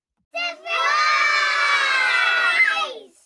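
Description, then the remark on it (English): A group of children cheers and shouts together in a loud, sustained burst lasting a few seconds, their high voices blending into an excited crowd roar before trailing off. “Give yourself a big cheer for working so hard and being so smart.”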